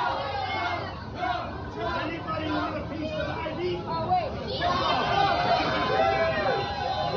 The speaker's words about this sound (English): And of course, they cheer. It is indeed a cult. Many of them wanting a slice that Donald Trump took a bite out of.